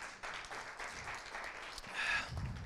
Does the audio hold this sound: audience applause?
yes